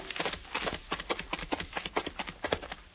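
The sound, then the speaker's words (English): The horses of the Lone Ranger and Tonto, including Silver, clip-clop steadily along the trail leading to Buffalo, Wyoming: a brisk, even rhythm of sharp knocking steps, clear with no talking over them. “and Tonto urged their horses along the trail that led to Buffalo, Wyoming.”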